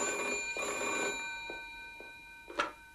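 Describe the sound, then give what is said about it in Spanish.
A telephone at the end of a hallway rings steadily with a bright, metallic tone that holds throughout, at moderate volume, with a brief sharper knock near the end. “¿Dónde está el teléfono? Al final del pasillo.”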